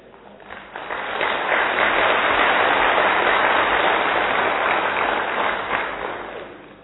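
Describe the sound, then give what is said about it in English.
A crowd breaks into applause, building quickly to a dense, steady wash of many hands clapping at once, holding loud for several seconds before tapering off slightly at the end. “Do you know at least clapping?”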